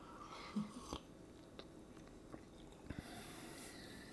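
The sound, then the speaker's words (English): Wet slurping of Colombian coffee into a microphone, with a handful of brief sips and smacking mouth sounds scattered irregularly over a quiet background, with no talking. “I know you all missed us, our slurping sounds into yeah. the microphone.”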